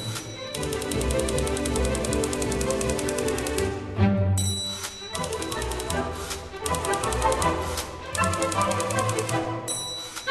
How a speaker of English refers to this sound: Leonard Slatkin, conductor on the new Anderson CDs, has played a few typewriters himself on the concert stage, and he says it's hard. It is. You have to tamp down all the middle keys so that only the two outside ones work